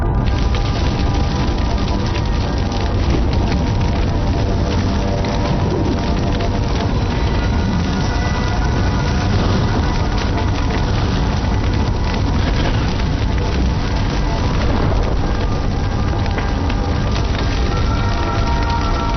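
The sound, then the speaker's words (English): A forest fire of dry lodgepole pines, started by lightning, burns in Yellowstone with a steady, dense roar, thick with constant crackling and snapping of wood, loud throughout with no voices. “Yellowstone is burning.”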